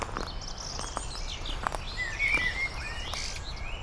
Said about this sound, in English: I feel nature's pulse on this glorious spring morn. I tread quietly through the trees and I'm uplifted by the gentle rush of birdsong.